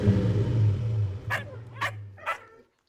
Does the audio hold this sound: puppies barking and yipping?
yes